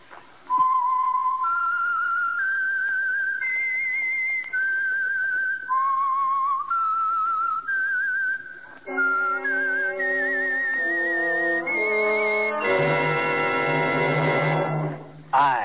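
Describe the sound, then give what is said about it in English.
A solo whistled melody, clear, rising and falling through a slow tune of sustained notes, the signature whistle of a Sunday evening radio program sponsored by Signal Oil, followed by a loud, brassy orchestral swell that ends the phrase. “the signal to listen for is this whistle that identifies the Signal Oil Program, The Whistler”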